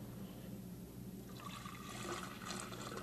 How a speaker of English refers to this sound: Yee-haw, that's a water pour. That's not a waterfall. It's a make-believe waterfall.